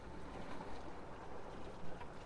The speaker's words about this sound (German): Aber das Wasser steigt, mein Schatz. Es ist soweit. Siehst du es nicht? Nein. Aber ich höre es. Du hörst es? Ja, es plätschert.